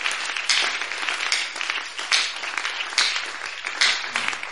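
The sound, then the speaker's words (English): A church audience applauds steadily to thank God, many hands clapping together in a dense, continuous wash of sound with a few louder swells, loud, with no one speaking over it. “So, as the word of God reached in your heart and your mind, even your inner man, as ministries have been here, through the voice of God, thank God with our hand claps for that word we have heard.”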